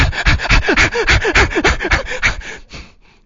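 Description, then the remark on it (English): A person imitates the heavy panting of someone swimming upstream against a current with all their strength, a quick steady run of loud, breathy huffs for about two and a half seconds before trailing off into quiet. “And you're swimming upstream with all your strength. You're panting.”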